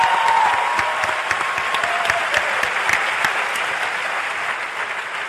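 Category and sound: crowd, audience applause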